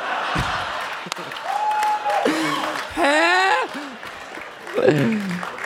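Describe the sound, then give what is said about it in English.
An audience gives a standing ovation, clapping steadily for several seconds in a dense crackling patter, while whoops and high, rising cheers from several voices break out over the applause. “You're right to clap. So, a standing ovation.”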